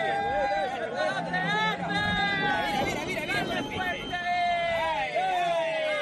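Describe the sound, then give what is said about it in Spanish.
A crowd of people at the port of Barbate shouts and yells, cheering on drug traffickers as a narco speedboat rams a Guardia Civil boat on 8 February. Many raised voices overlap in loud, high-pitched cries that rise and fall without pause for the whole stretch. “Lo que hemos escuchado son los gritos de la gente que estaba allí presente en ese puerto y que estaba pues jaleando a los narcos.”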